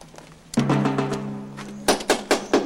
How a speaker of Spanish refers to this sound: Llaman a la puerta de Rosa.